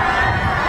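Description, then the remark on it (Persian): A dense, steady roar of a large crowd, apparently from a stadium, heard as the Leader's car passes through welcoming crowds, with many indistinct voices blending into a continuous wash of sound at a constant loud level. “این صدایی که میاد به نظر باید از ورزشگاه باشه.”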